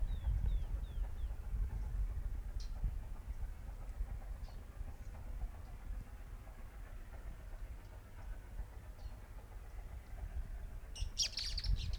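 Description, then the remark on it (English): Three birds chirp and sing at once, short high calls overlapping above a steady low rumble, with a brighter burst of chirping near the end. “Three birds singing at one time.”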